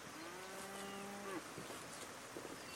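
A single long, low moo from a white cow with big black spots roaming a hilltop under a sunny blue sky rises slightly at the end, then fades into quiet outdoor background with a few faint rustles. No one speaks.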